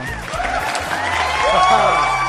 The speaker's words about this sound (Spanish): Te estás pasando un poco, ¿no? Con el tema aplausos, mito viviente.